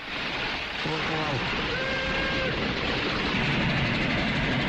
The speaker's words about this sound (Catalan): Diu, ponen en marxa el tren.